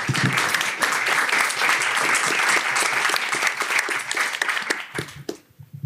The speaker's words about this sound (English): Thanks, Elliot. A round of applause for Elliot Cohen, ladies and gentlemen.